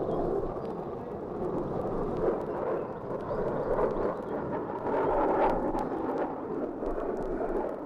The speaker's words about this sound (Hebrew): מטחי התותחים הולכים וגוברים עכשיו, הן התותחים שלנו והן התותחים הסוריים המפגיזים קרוב מאוד לשיירה.